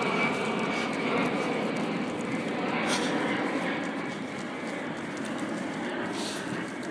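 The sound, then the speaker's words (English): A steady, broad roar of an airplane passing overhead at Richmond Green fills the whole stretch, loud and continuous with a slight swell, over faint outdoor background sounds. “There's quite a plane going over there.”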